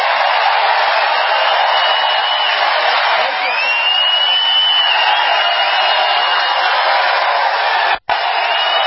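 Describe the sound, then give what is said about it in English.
A large rally crowd in MAGA hats and shirts stands and applauds and cheers steadily and loudly, a dense roar of clapping with occasional whoops rising above it, broken only by a brief cut near the end. “Now, that brought the biggest rouse of applause for about a minute.”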